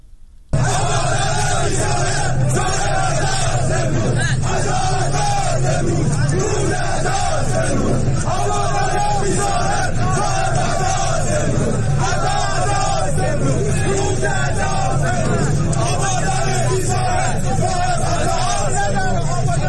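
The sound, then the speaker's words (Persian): A large crowd of people gathered in front of the Metropol building in Abadan, Iran, shouting and chanting together, a dense, loud roar of many voices that holds steady throughout with no pauses. “ساعتی پیش از آن جمعی از مردم آبادان مقابل ساختمان متروپول تجمع کرده بودند.”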